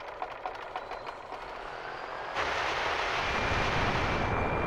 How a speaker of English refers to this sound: Now all you have to do is yank the pull start. Okay, here goes.